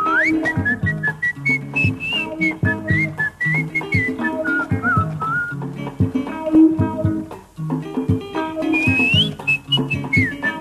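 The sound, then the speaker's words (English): A bright whistled melody glides and warbles above a full band playing a steady, bouncy groove with bass and guitars in a 1973 Congolese pop song, later re-released on CD. The whistling sits loud and up front, breaking briefly before returning with rising slides. “It's always great to hear whistling in a pop tune.”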